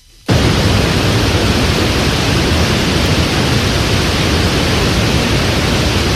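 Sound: white noise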